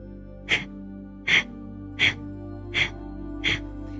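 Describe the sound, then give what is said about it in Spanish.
Five sharp, forceful breaths pushed out through the nose in a quick, steady rhythm, clear over a low background hum: yogic breath-of-fire exhalations made by pushing the navel back. “Primero vamos a hacer un poquito de respiración de fuego, que es empujando el ombligo hacia atrás, exhalamos.”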